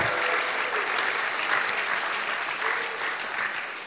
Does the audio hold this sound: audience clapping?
yes